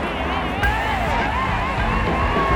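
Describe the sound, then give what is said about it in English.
A large crowd roars and cheers continuously, a dense, loud wall of overlapping voices and shouts that holds steady for the whole stretch without a break. “Jim felt the roar of the crowd like a warm hug.”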